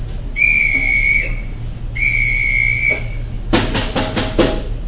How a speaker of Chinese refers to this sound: 但是当你听到我敲两个噪音的时候。哔哔，所有人叫一二三四五一起结束。好，我的噪音长这样。